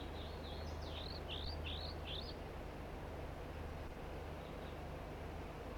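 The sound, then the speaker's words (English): Two crossbills from a flock give the typical flight song: a quick run of about six high, rising chirps in the first couple of seconds, over a steady low rumbling background, then a faint note or two later. “One of the birds just chased by some kind of flycatcher and is off in the distance giving flight song type songs, and the other two birds are singing as well here, giving the typical flight song.”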